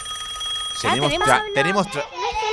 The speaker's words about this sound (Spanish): porque suena el teléfono y yo pregunto, hola, ¿quién está ahí?